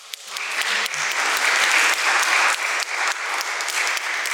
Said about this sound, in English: It is so amazing to be back here, and welcome to the London Opera Guild. I'm so excited to be able to say this after so many months with COVID. I think we need to applaud that.